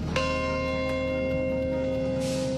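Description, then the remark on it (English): A single deep bell strikes once at the site of the World Trade Center, in remembrance of the September 11 terrorist attacks; its rich, ringing tone hangs and slowly fades, solemn and resonant, with faint background murmur and no speech. “A bell tolls at the site of the World Trade Center, remembering the day 16 years ago when terrorists struck and murdered over 3,000 innocent people in three separate locations in the U.S.”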